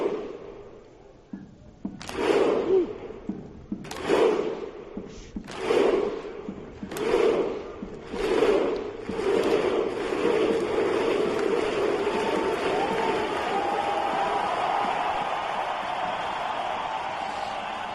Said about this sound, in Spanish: Mira, tenemos el sonido de la afición de Islandia. Así ha sonado hoy.